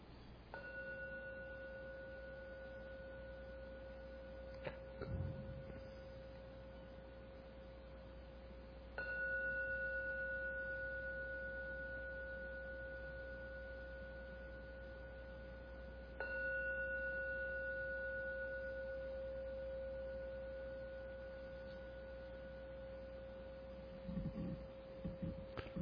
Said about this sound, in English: Ring the gong 3 times. Please wait and listen to every ringing of the gong when the last vanishes, come out for your meditation.